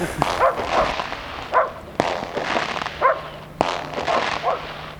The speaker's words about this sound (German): Jetzt haben sie noch Hunde dazu geholt.